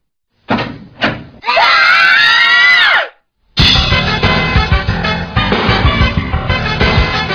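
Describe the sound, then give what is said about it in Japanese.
A couple of sharp door knocks or bangs, then three people burst into loud overlapping screams the moment a door is opened, lasting about two seconds before cutting off, followed by a dense, busy stretch of sound. “ドアを開けた途端に大悲鳴の”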